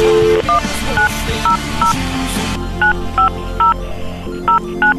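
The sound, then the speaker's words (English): A touch-tone phone dialing a 1-900 number: about nine short two-tone beeps in a quick, slightly uneven sequence, clear, over a low background hum that is noisier at first. “We could call any number we want”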